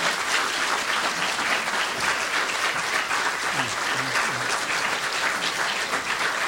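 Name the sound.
audience applause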